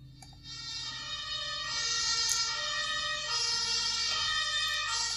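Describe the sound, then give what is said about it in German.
An ambulance siren wails loudly and steadily over a low vehicle engine rumble, its pitch shifting slightly as it seems to pass by, with no one talking. “So, und den hole ich jetzt hier mal bei YouTube rein.”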